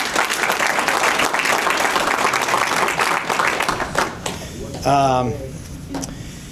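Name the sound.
round of applause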